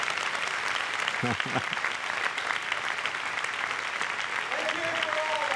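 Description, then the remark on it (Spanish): An audience applauds for all the women, a dense, even wash of clapping that holds at the same loudness throughout, with a few brief voices calling out over it. “Vamos a aplaudirle a todas.”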